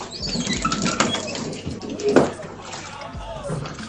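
A new washing machine runs with a steady watery churning, periodic dull thumps, and faint whining tones that rise and fall like hydraulics, holding at a moderate level throughout.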